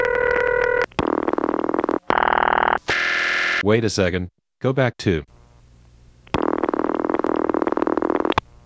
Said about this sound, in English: Let's play the bell system rings for a minute.